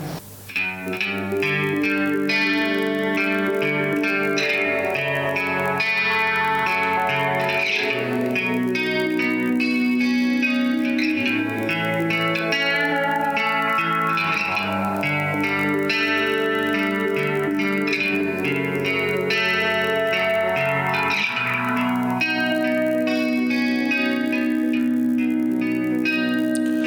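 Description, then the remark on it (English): A recorded song plays steadily and fairly loud, with dense, layered instruments drenched in chorus and distortion effects, sustained chords shifting throughout and no voices standing out. “So this next song is also from, like the first song I played,”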